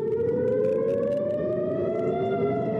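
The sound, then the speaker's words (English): A loud, steady air raid siren wails continuously in the northern Israeli city of Haifa, warning residents as people scramble for bomb shelters, its tone slowly drifting in pitch, with faint background noise and no voices. “Once again, air raid sirens warned residents in the northern Israeli city of Haifa as people scrambled for the nearest bomb shelters.”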